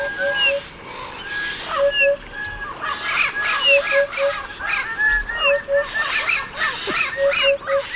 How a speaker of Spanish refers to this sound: Pero vamos a hacer la prueba, vamos a escuchar el cuadro, el concierto de pájaros de Franz Schneider. ¿Cómo suenan todos a la vez? Así.